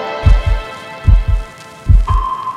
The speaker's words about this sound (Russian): Я лежу на твоей груди, слышу только сердце стук.